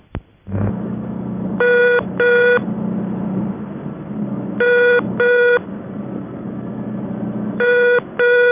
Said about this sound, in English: Special oddity is the ringing tone on the fault reporting number at national and monarch exchanges. It is very high pitched.